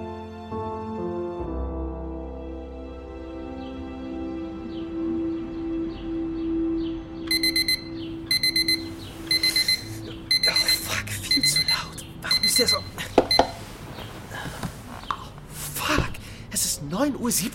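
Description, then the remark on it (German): An alarm clock set for 7 a.m. starts beeping partway through, shrill electronic beeps in repeated short bursts that grow busier and louder over a sustained humming background tone. “Okay, ich stell den Wecker auf 7 Uhr.”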